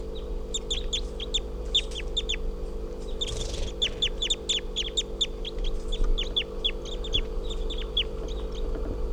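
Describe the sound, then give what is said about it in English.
Juvenile crossbill calls: a rapid, irregular stream of short, sharp, high-pitched chips repeating throughout, fairly loud over a steady low background hum, with no talking. “After recording, that bird has just been captured, and it's a juvenile. Probably a juvenile male with a lot of yellow and a right crossing bill.”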